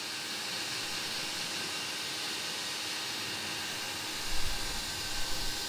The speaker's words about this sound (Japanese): ドライヤーの音ってさ、結構大きいけど、暖かい風で乾かされるのって気持ちいいよね。